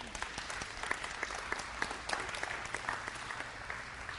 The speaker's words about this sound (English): We should have had some people clapping on that. Come on. Come on. Help me out.